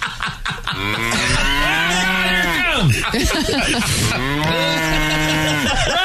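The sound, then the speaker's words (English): A cow moos loudly, two long drawn-out lows back to back, each rising then sliding down in pitch, with no other sounds around them. “Bad cow. Officer down.”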